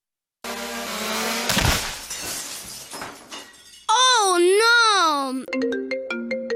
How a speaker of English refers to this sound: My drone hit the window. What have I told you about flying that thing in the house?